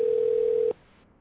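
A steady, loud telephone tone hums at a single low-mid pitch for under a second, then cuts off abruptly, leaving only faint line hiss. No voices are present.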